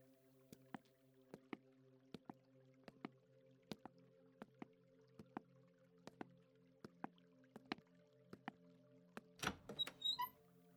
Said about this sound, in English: I love this water feature. It's so soothing.